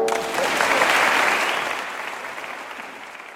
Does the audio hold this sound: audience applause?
yes